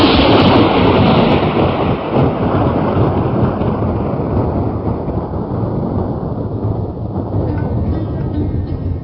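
Heavy ocean waves surge in a steady, loud roar of rushing water, flooding coastal cities, continuous with no distinct breaks, easing only slightly toward the end. No voices.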